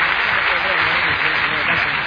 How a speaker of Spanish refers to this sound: Dámelo fuerte aplauso en ese Cristo. Dios te bendiga. ¡Fuerte el aplauso a Jesús!